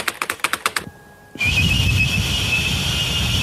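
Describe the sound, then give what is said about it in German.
A quick run of clicks gives way to a thin, steady whistled tone, then a harsh hissing burst with a high whistle over it, a person whistling a computer modem's screech into a computer system, putting garbage on the screen. “Das sieht man jetzt halt so Müll am Bildschirm, weil ich eben nicht so gut pfeifen kann wie ein Computer.”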